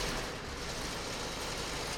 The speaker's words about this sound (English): you've probably already seen the trucks, and most likely you've heard wood chippers like this as well in recent days.